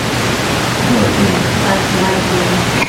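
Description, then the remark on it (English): Steady, dense rain hisses evenly throughout, a constant wash of pattering with no pauses or distinct individual drops standing out. “Just labeling it, we would call that what? Rain.”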